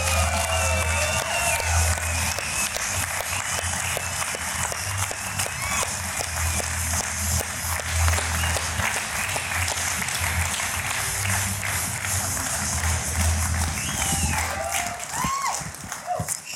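A studio audience applauds loudly and steadily to welcome a guest, dense clapping filling the whole stretch with some cheering mixed in, tapering slightly near the end.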